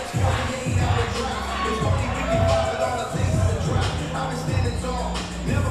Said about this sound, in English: Crowd is quacking along.